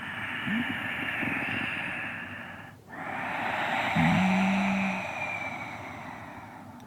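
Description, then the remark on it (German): Ujjayi breathing, made by narrowing the glottis, sounding like Darth Vader breathing through his dark helmet: one long, steady hissing breath, a brief pause, then another long airy breath with a faint low hum partway through. “Und die Ujjayi-Atmung, die klingt eben ganz ähnlich. wie Darth Vader, so als würde Darth Vader durch seinen dunklen Helm atmen.”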